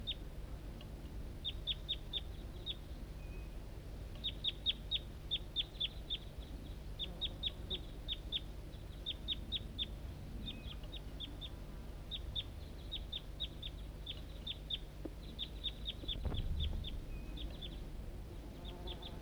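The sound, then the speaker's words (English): Decoy birds call in response in quick bursts of short, high chirps, several rapid notes per burst, repeating throughout over a low steady background hum with no talking. “And decoys responding.”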